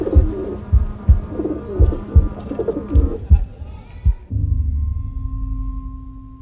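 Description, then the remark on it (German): Several pigeons coo in overlapping, throaty bursts for about four seconds, then give way to a steady low hum with a faint sustained tone. “Ein Taubengestöber, ins graublaue Licht des Morgens geschleudert.”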